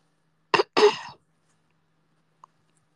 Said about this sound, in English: Sorry, I had to cough. I'm sure you didn't want to hear that.